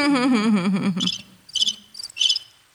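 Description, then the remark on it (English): A fake cricket chirping sound effect: four short bursts of high, buzzy chirping in a stop-start rhythm, clear, following a brief warbling tone at the start. “Maybe we can sound the crickets one more time before we wrap it up.”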